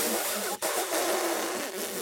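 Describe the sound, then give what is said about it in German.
A voice imitates an elephant with a rough, brassy trumpeting blare that wavers in pitch, broken by a brief pause partway through before continuing loudly to the end. “E wie Elefant. Ah, ja, das klingt schon sehr echt.”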